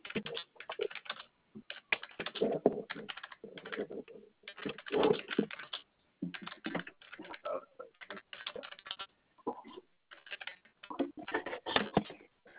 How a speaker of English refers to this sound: And if you do hear a couple moments of silence, just me typing up the ticket for you.